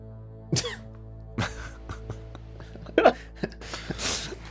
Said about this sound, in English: Hank coughs up blood. Hank bleeds.